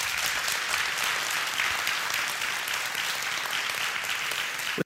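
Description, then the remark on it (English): An audience claps together as a hand clap of praise to the Lord, a dense, sustained round of applause, many hands blending into a steady crackling roar that holds evenly loud for several seconds before cutting off. “Give the Lord a hand clap of praise if you would.”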